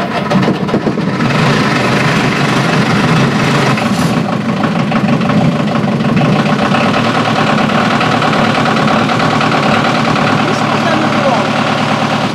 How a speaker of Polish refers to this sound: Słychać ten samochód. Słychać i czuć.